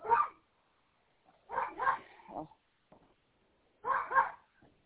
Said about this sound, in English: Of course, my dog had to start singing.